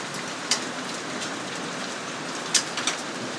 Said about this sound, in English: It's summer thunderstorm season again here in southeast Queensland, and little storms coming through at the moment. Only been raining about 3 minutes. You can hear the hail. Hear it?